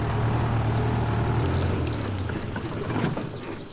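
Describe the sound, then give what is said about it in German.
A car engine hums steadily with a low rumble and rushing road noise as the vehicle drives along, being repositioned to get a better view, fairly loud, with no voices. “Von daher versuche ich jetzt mal mit dem Auto nochmal in eine Position zu kommen, wo ich ihn besser sehe.”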